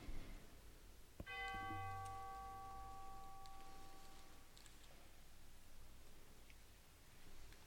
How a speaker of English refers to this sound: And a final chime for all loved ones whom we hold close in our hearts and memories this day.